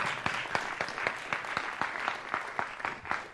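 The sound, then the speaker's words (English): An audience claps together in a steady, even rhythm, sharp unison claps roughly four per second, fairly loud, over a faint wash of background noise, with no one speaking. “Go ahead. Clap.”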